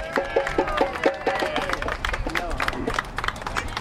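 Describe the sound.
A crowd breaks into steady applause, many hands clapping in a dense, continuous patter for several seconds, with a few voices and whoops mixed in near the start.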